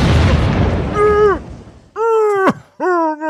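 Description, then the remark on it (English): A microwaved hard-boiled egg bursts with a loud, noisy pop that fades over about a second, followed by three drawn-out, wavering vocal cries, as if someone groans in pain. “I just microwaved this hard-boiled egg, and I love hard-boiled eggs.”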